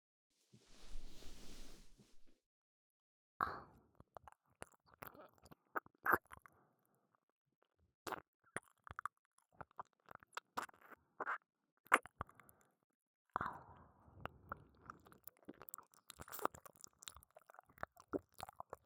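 A soft breathy exhale, then wet licking and smacking mouth sounds: irregular clicks and slurps in short bursts with brief pauses, moderately loud, no talking.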